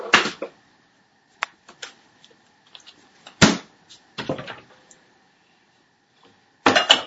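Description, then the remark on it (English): A freezer door in a kitchen is pulled open and a plastic ice cube tray is slid out, a few sharp clunks and scrapes separated by short pauses, with a final loud rattle at the end. “Opening up the freezer. And pulling out the ice cube tray that I put in there earlier today.”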